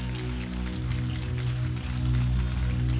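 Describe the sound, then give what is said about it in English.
A crowd claps together in a dense, continuous patter, steady and fairly loud throughout, with a low sustained hum or music underneath, as people clap in response to a reading of Psalm 47, verse 1, "Oh, clap your hands." “Oh, clap your hands.”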